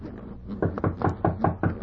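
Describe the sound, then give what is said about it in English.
A series of firm knocks on a wooden door, about six evenly paced raps, fairly loud with no voices. “Hark, someone knocks.”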